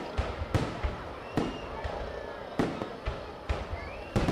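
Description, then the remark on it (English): Firecrackers for Tet, the Lunar New Year, celebrating the Year of the Monkey in 1968 in a town in central Vietnam, pop in an irregular scatter, about a dozen sharp cracks over a few seconds, some loud, others softer, over a low murmur of background noise. “But the sound of firecrackers celebrating the Year of the Monkey in 1968 was replaced by gunfire and explosions.”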